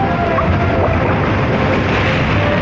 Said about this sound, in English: Ocean surf.